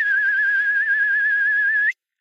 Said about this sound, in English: Can we hear that whistle